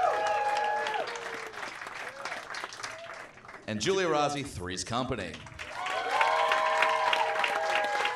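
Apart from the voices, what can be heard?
audience applause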